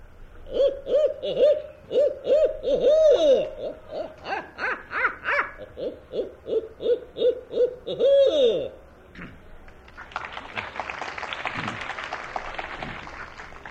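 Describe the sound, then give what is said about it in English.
A person imitates a hoot owl with a long, rhythmic run of loud hooting calls that rise in a rapid cackling series, followed by a burst of broad, rustling crowd noise. “And I'm sure a lot of you Florida crackers and Georgia crackers can recognize a hoot owl.”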